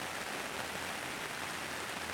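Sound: heavy rain falling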